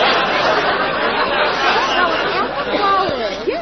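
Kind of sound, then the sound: crowd, crowd chatter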